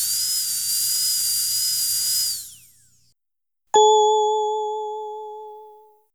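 A dentist's drill whirs with a steady, high-pitched whine for about two seconds, then winds down; after a short silence a single bright bell ding rings out and slowly fades.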